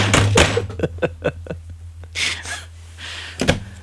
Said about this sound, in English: The echo you hear is him slamming the desk.